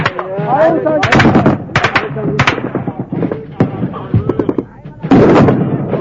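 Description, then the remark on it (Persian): Rapid bursts of machine gun and rifle fire from DShK machine guns, Kalashnikovs and RPGs crackle in loud, uneven volleys early in the morning beside the concrete pillars of a half-built bridge. Sharp cracks stack over one another, with voices shouting underneath and a heavy blast of gunfire near the end. “روز اول صبح زود در کنار پایه‌های بتونی آن پل نیم ساخته، بچه‌ها با دوشکا و کلاشینکوف و آرپیجی به مسافه دشمنی شتافتند که در پس خربارها آهن پناه گرفته است.”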